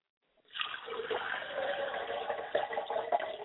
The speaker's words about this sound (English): I pour libations to the east, from which we look, from where our help cometh.